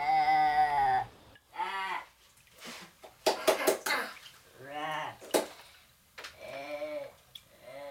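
Several wavering, quavering sheep bleats sound close by, separated by short pauses, with a few sharp breathy bursts between them.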